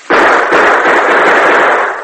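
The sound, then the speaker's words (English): A loud burst of gunfire shot into the bottom of a barrel to let the water in it run out, the shots running together into a dense, harsh crackle that holds steady for about two seconds with no voices. “A few more bullet holes in the bottom of the barrel will let the water run out faster.”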